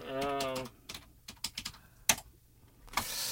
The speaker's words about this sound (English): Let me see if I can get this. Oh, gosh, my typing's bad. Hang on. I'll tell you what, I'll ask you another question while I type it in.